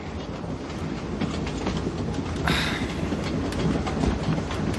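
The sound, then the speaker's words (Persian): A train loaded with explosives rolls steadily along its rails through Skull territory with a continuous low rumble and faint rhythmic clatter, a brief brighter screech rising midway through; no one speaks. “ما توی یه قطار پر از مواد منفجره ایم که از قلمرو جمجمه عبور میکنه.”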